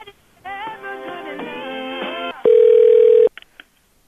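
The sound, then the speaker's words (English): Telephone tones, first a wavering electronic melody, then a loud steady ring tone held for under a second, ending in a few short clicks and blips. No one speaks. “Why is it ringing?”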